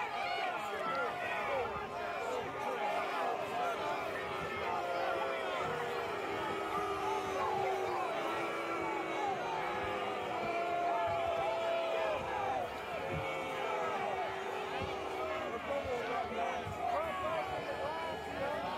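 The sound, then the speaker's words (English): A large crowd at the Capitol building roars with continuous overlapping shouts and jeers, booing protesters who are bashing the glass; a dense wall of voices that stays loud and steady throughout. “So they're getting booed.”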